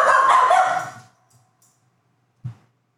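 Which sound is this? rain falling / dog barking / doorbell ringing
dog barking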